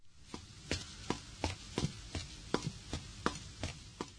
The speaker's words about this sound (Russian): Ну, на слух ощущение, будто кто-то быстро шагает. Верно. Правильный ответ. Ста-ста. Ста-ста. Это слово обозначает быструю ходьбу.